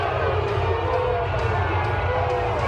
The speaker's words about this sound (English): Let me play the booing from last night. Hey, here's the booing.